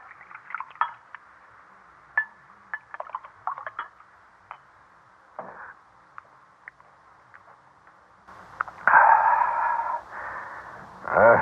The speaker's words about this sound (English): All right, sit down and pour the wine